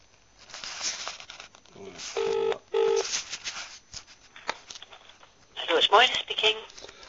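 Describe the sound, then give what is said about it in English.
A couple of short electronic telephone dialing beeps, each a steady paired tone, sound between bursts of muffled voice and background noise as someone phones back an organisation, followed by a brighter, busier burst of sound. “So now I'm going to phone them back because they've emailed me and talked to this person.”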